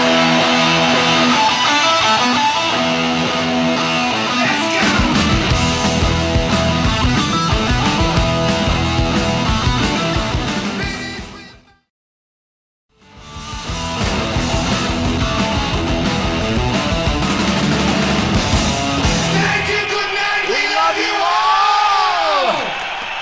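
Loud, dense heavy metal played live with distorted guitars and pounding drums, a crowd whooping and yelling throughout; the music cuts out briefly midway, then surges back with shouted vocals.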